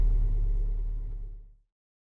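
A car engine idles in city traffic, queued at traffic lights, with a steady, deep rumble that holds for about a second and a half and then stops abruptly. No one speaks.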